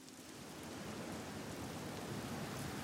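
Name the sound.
heavy rain lashing down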